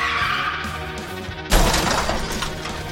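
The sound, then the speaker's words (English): A car crash: tires squeal in a sustained, high-pitched skid, then a loud impact hits with smashing and shattering glass, followed by a rumbling, crunching aftermath. “I know the first car crash would have jostled even you up.”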